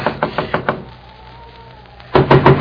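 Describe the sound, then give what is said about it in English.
Four firm knocks on Bauer's door in quick succession, knocking to wake him at his snowbound house, a short pause of near silence, then another rapid, louder round of knocking. No one speaks. “Come on, Bauer, open up the door.”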